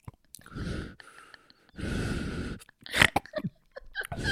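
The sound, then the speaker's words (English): A voice imitates a woman breathing into a drinking glass held at her mouth as she slowly drinks: two long, hollow, resonant breaths, followed by a run of shorter breathy puffs and small clicks. “She's breathing into the glass and you can hear it like it's inside your own head.”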